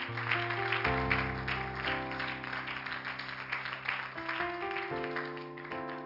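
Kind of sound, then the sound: crowd, applause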